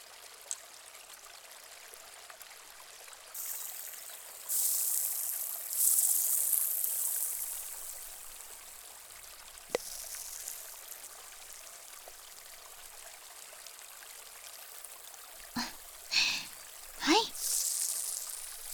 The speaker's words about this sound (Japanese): では全体に塗り込んだペーストにスポイトで水分を足していきます。少しポタッとしますよ。